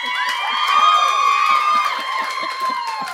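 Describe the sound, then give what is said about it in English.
A crowd cheers and whoops for about three seconds at the mention of same-sex attraction, many high voices overlapping in a loud, steady roar that rises slightly in the first second and then holds. “Cheer for same-sex attraction.”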